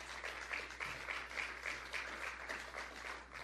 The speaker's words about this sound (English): might they have scheduled a place with a little larger crowd? I mean, that just sounds like a really small kind of low-level golf tournament applause.